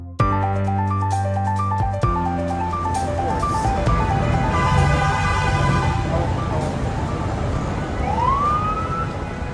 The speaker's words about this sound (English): Ah, the sweet sounds of morning in Manhattan. I know it well. The cars honking, the buses screeching, the people also screeching. It's so calming.